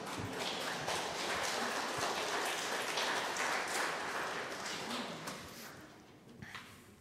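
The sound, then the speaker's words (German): A crowd claps steadily for several seconds, a dense crackle of many hands that thins out and fades toward the end, with no voices over it. “Da darf man ruhig klatschen, das passt schon.”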